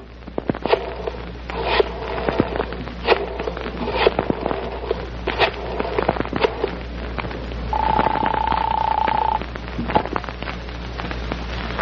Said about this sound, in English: And then I picked up the phone.